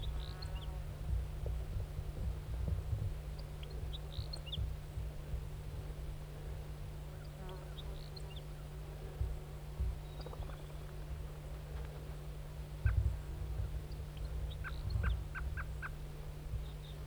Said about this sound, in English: Wild bird. Wild bird. Stop. Is it recording the wild bird again?